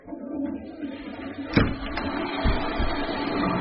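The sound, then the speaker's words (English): A toilet door bangs with one sharp knock partway through, followed by a couple of softer low thuds and faint squeaky noises over a steady background hiss. “It's the toilet door.”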